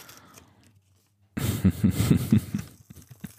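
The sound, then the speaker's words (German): Heavy-duty unicorn sticky tape is peeled off an envelope: after a quiet moment, a loud, crackling rip runs for about a second, then fades into softer intermittent rustles. “Und ihr könnt jetzt dabei zuhören, wie ich das Einhorn-Klebeband von dem Umschlag entferne.”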